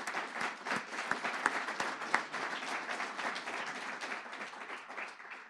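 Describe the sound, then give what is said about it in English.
An audience in Muncie applauds steadily for several seconds, a dense, crackling wash of many hands clapping at an even, sustained loudness with no voices. “So I'm going to give you a round of applause.”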